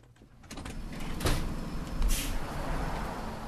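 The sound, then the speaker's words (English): A studio door opens with a mechanical rush and a couple of brief scraping bursts, then louder outdoor ambience swells in, a steady low rumble of city noise at a four-way traffic light in Boston on a cold day. No one speaks. “I'm already out the door.”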